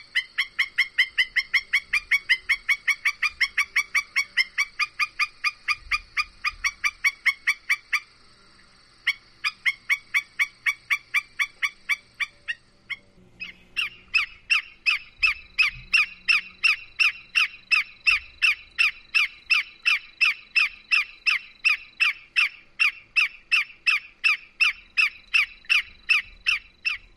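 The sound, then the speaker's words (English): A black-necked stilt gives loud, sharp piping calls in a rapid, monotonous series, insistent, pausing briefly twice before resuming at an even steadier pace. “When agitated, black-necked stilts often call loudly and incessantly, and they use a monotonous series of loud piping sounds to communicate.”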